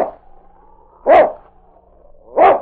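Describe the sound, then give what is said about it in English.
A big husky dog barks twice, trying to rouse its master lying in the snow, each bark a single loud, sharp burst about a second apart, with a thin, faint whining tone lingering in between. “The intelligent dog tried to arouse his master by barking.”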